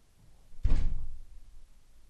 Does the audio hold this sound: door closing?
yes